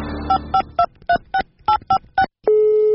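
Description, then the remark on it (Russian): Nine quick touch-tone dialing beeps of a telephone call in an even rhythm, each a short dual-pitched chirp, followed by a steady, sustained ringing tone that begins after a brief pause; the called subscriber does not answer. “Абонент не отвечает.”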